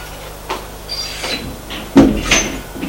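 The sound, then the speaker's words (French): After a knock, the door to a child's bedroom opens with a soft latch click, a faint creak, then a heavier thud and rustle as it swings and a man enters. No one speaks. “Frappe à une porte. Entrez. Il entre.”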